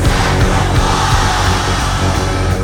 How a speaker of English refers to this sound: Do you feel like singing with me? On the count of three, we're all gonna yell sacrifice as loud as we can. Ready? 1, 2, 3!